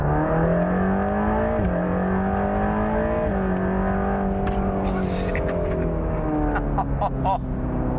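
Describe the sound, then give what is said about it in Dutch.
The engine of a Mercedes-AMG GT Black Series sports car roars, its pitch climbing steadily through a couple of gear changes as it accelerates, with sharp exhaust crackles popping near the end. “Met Tuner Absolute Motors kreeg hij de sleutel van een Mercedes AMG GT Black Series in de hand gedrukt.”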